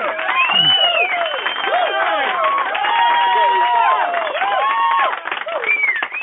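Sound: crowd cheering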